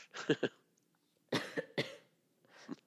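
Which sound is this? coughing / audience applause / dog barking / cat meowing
coughing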